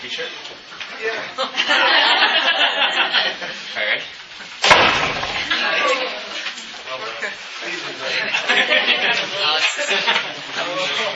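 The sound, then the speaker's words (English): A single loud door slam lands sharply midway through, cutting across a room full of murmuring voices and light chuckling that continue on either side of it. “Well, why don't you slam the door?”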